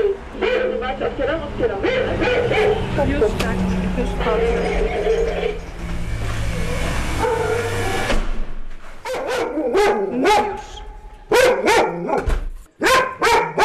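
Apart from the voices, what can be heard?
dog barking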